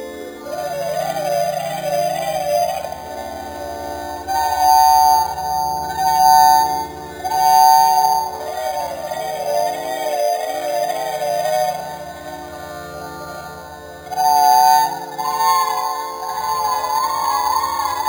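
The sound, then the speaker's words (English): A slowed, pitch-shifted opera vocal sample with a bit-crushed, glassy digital texture, sustained wavering tones swelling and fading in long phrases, eerie and whale-like, with no talking over it. “So this is the original opera sample slowed down with a pitch corrector or a pitch shifter and a bit crusher added to it.”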